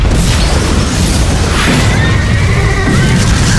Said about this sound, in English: Ryan fought his horse as the Plasex went off in the building, showering the trees with concrete chips and debris.